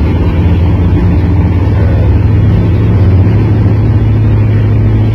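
A motor engine runs steadily throughout, a continuous low droning hum with a constant level and no changes in pace, heard on its own without any talking.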